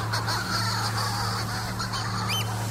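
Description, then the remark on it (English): A chorus of seabirds cackling and screaming at night as they fly in circles around an island calling to their mates, harsh overlapping calls with rising wails layered over a steady low hum, continuous throughout. “And that's what that incredible cackling, screaming, banshee-like sound is.”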